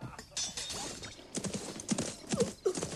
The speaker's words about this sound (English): Then they heard horses across the river.